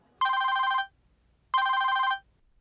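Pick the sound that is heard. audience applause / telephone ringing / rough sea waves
telephone ringing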